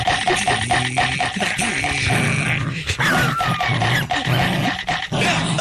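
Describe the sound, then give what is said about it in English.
A person imitates a small dog biting and struggling while being rescued from water, letting out a rapid string of loud yips, whimpers and growly grunts that run almost nonstop for several seconds. “Yes, and whimpering.”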